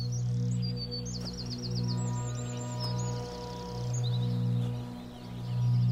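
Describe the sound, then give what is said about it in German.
Birds sing continuously with high, warbling chirps and trills over a steady low hum, their calls repeating in quick bursts throughout, clear with no one talking. “Es kann so beruhigend sein, sich mit diesem Land zu verbinden, während du fröhlich mit deinem neuen Freund dahingehst, dem Gesang der Vögel lauschend.”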